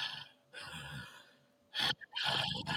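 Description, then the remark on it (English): A voice imitates the slow, heavy breathing of a clawed, large-footed creature dressed in rags in a darkened room: a long raspy inhale, a pause, then a sharp gasping breath followed by another drawn-out rasping exhale, fairly loud. “And it is breathing very slowly.”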